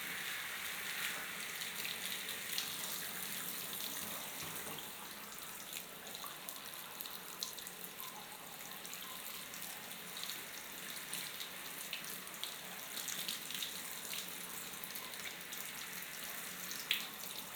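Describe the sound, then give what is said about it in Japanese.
A steady, continuous stream of warm water pours and splashes over someone's back to rinse it, with a bright, hissing spray texture, holding an even level throughout with a few small crackling spatters and no talking. “これぐらいで熱くないかな。流しますね。熱くないですか？”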